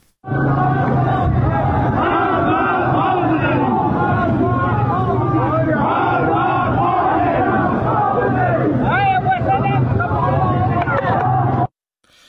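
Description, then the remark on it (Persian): A large crowd of protesters in Mashhad chants slogans including "Death to the dictator" in unison on Saturday evening, many voices shouting together loudly and rhythmically for about eleven seconds before the sound cuts off abruptly. “تصاویری که در شبکه‌های اجتماعی منتشر شده، گروهی از معترضان را نشان می‌داد که شامگاه شنبه در مشهد شعارهایی از جمله مرگ بر دیکتاتور سر می‌دهند.”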